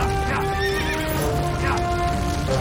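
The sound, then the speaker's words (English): A horse whinnies loudly and repeatedly, with shrill rising-and-falling neighs over a steady clatter of hooves as it gallops out of a burning barn, with no talking. “A horse flies out”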